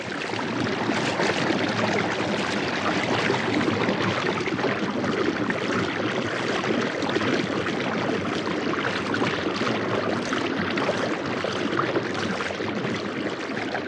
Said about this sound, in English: We leave you this week in Bill McKibben's backyard. Andrea Lockwood recorded the cascading waters found at the gorge at Blue Ledge, high in the Adirondack Mountains, as part of her work called A Sound Map of the Hudson River.